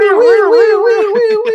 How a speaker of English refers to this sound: That siren.